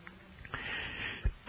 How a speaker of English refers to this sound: Now you get to hear me when I cough real good.